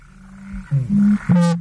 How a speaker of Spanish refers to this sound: Así, por ejemplo, en lagunas, marismas y demás, bufan los abetoros, una garza nocturna.